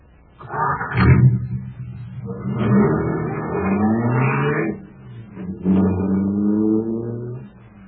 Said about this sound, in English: Boy, that cosmic surface car is really roaring. That's because it's supercharged with super fuel.